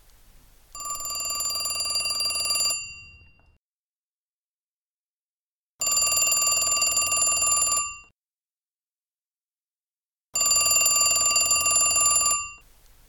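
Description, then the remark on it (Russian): An old telephone bell rings in three loud, clear bursts of about two seconds each, separated by silent pauses, with no voices. “А следующий этап был телефон.”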